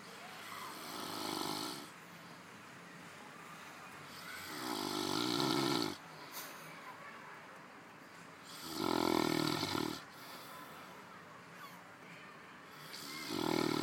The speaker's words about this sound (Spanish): Hola, os voy a poner cómo ronca un gallego a la hora de la siesta. Para eso escuchar.